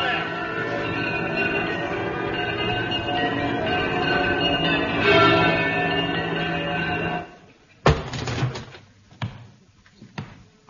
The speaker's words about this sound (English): Who rang them bells? I did.